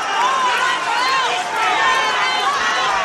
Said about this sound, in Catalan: Crits, com podeu sentir, de fons. Jaume Collboni, que va amb la vara i sí que saluda una cinquantena de persones que estan donant-li suport amb aplaudiments.